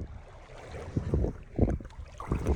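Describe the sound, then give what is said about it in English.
Cold water sloshes and laps in irregular bursts against a steady low rumble of wind, with a few louder splashy surges near the end. “So this is the water.”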